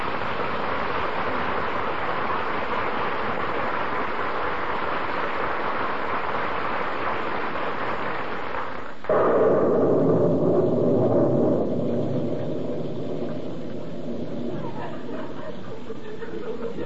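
Steady rain pours down on a street in Wistful Vista, in the Fibber McGee and Molly radio show, as a dense, continuous hiss, then about halfway through the sound abruptly turns duller and lower, becoming a muffled, rushing patter.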